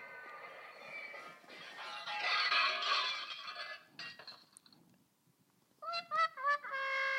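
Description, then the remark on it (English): A toy sound machine plays a tinny recorded horse neigh: a long, bright, noisy whinny, a brief pause, then a quick series of quavering, stepped pitch pulses at the end. “I brought you a little sound machine.”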